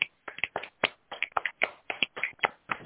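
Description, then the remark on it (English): A small crowd snaps fingers and claps in a loose, uneven patter, sharp overlapping pops coming steadily for a few seconds with no voices. “can we stomp our feet, clap our hands, snap our fingers for the …, rocking a piece?”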